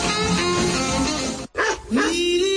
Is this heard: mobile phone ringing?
no